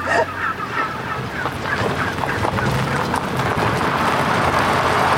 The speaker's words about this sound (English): The turkeys broke down the electric fence. You were almost assaulted by 1,000 turkeys.